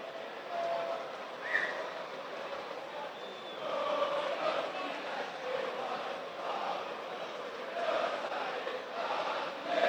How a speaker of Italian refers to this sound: adesso ci sono i cori anche dei tifosi del Lecce.